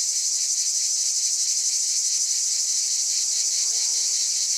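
A dense chorus of cicadas buzzes steadily and loudly throughout, a continuous high shimmering drone with no pauses and no voices.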